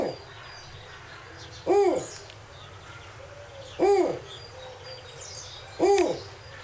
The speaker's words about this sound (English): Now, is that what we might hear if a snowy owl is in our presence? So that does sound like a good snowy owl call. It's kind of a territorial call as they're on their nesting grounds.